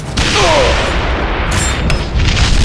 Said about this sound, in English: cannon fired again.